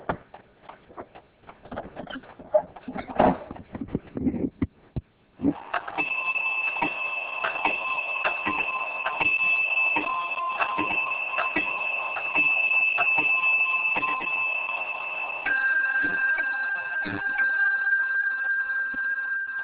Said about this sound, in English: The clock has recently been repaired and is in full working order, and is a quarter chiming clock. And if you pull the little side cord, it should chime for us.